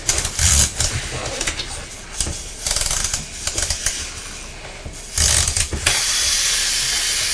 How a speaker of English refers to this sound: You like the sound of the timer, don't you? I like the timer, don't I? You do, don't you?